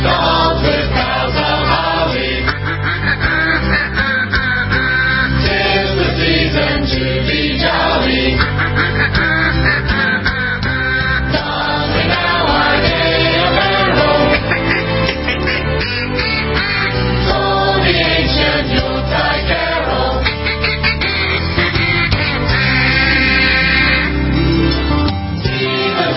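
A bouncy holiday tune plays loud and steady throughout, with quacking, duck-like voices singing over a full band backing.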